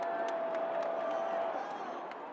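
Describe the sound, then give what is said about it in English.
A steady wash of artificial, generic crowd cheering and murmur plays through the speakers of an empty baseball stadium, with scattered sharp claps and a faint sustained tone running beneath the noise. “pumping generic fan noise through the stadium speakers.”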